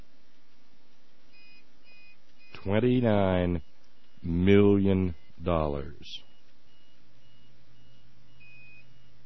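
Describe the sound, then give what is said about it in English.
A power backup unit beeps faintly in the background because the power has gone off, giving a few short, high electronic tones before and after a man speaks briefly. “That beeping you hear in the background is the fact that the power has gone off here.”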